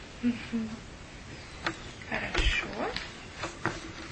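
A small cat meows several times in short, wavering cries spread over a few seconds, moderately loud, with faint clicks and background noise between the calls.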